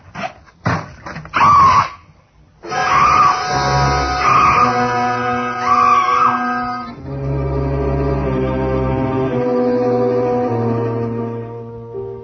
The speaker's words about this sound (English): Screaming finally. I felt better for it.